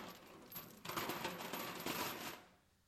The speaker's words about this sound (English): So we have this old metal chest here. We've got chains because it's Scrooge. Right.